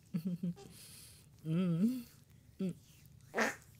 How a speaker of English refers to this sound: I have another huge one coming, so I'm gonna break it into like 15 different farts.